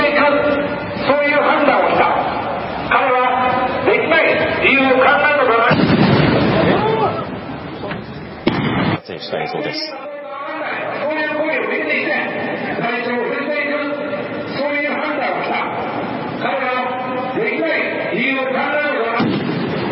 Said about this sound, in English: 銃声が2回聞こえた後、男がSPと見られる男性たちに取り押さえられました。